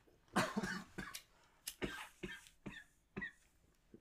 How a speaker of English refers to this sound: We're going. We're all coughing here.